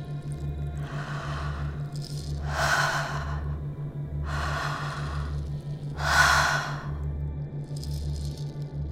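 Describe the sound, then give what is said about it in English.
Steady, deep open-mouth circulatory breathing flows in and out without pauses, broad airy rushes swelling roughly every one to two seconds over a low, pulsing rhythmic hum. “Let's begin with some deep open mouth circulatory breaths, where there are no pauses on the inhale and exhale. Each breath flows in and out like the waves of the ocean.”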